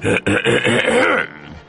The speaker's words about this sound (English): Said the wolf as he cleared his throat.